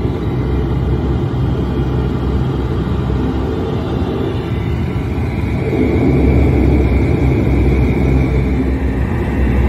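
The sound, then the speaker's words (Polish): A steady, heavy engine rumble from inside an airplane idling on the runway while waiting for takeoff, low and continuous, growing slightly louder partway through, with no voices heard. “A my ciągle czekamy na start. I będziemy nawracać, jesteśmy na pasie, na którym dopiero zjechaliśmy samochodem.”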